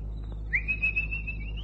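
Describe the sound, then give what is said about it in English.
A single drawn-out whistle at a kitchen door, someone whistling for a dog named Boadicea, swoops up sharply then holds a steady high note for about a second, clear over a faint low background hum. “At the kitchen door, Keith paused, and then whistled the dog Boadicea.”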